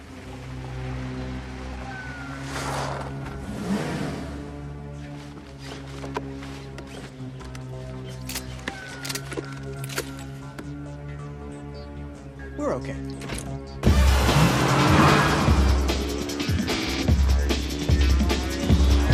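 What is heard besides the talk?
car engine accelerating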